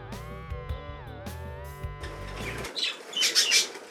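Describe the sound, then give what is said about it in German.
Canaries at the Vogelwarte Sempach chirp in quick, bright, high-pitched twittering bursts that grow louder toward the end, following a steady, buzzy tonal hum at the start. No one speaks. “Der Kanarienvögel haben schöne hochfrequentierte Regenbogenfarben.”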